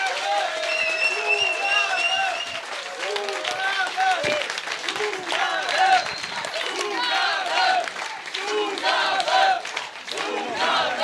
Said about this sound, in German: Einen großen Applaus! Fantastisch!